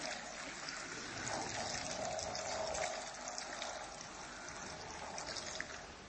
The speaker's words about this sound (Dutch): Wil jij dit water erbij gieten? Laat maar duidelijk, het mag lekker hoog. Als je, dat iedereen goed kan zien. En hij mag helemaal leeg.